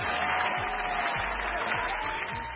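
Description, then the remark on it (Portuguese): Dense, steady applause from a sizable crowd, a continuous wash of clapping at an even loudness with faint low rumbles beneath, sustained throughout without any voices standing out. “Eu bem disse que iam haver muitas palmas esta semana.”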